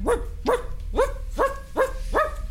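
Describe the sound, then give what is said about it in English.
A dog in a yard barks six times in a steady, evenly spaced run, set off by a door screeching on its hinges, each bark short and sharp with a tonal, slightly yelping quality, over a low background rumble. “All the doors looked just alike, and the first one that she opened screeched so loudly on its hinges that the dog in the yard started to bark.”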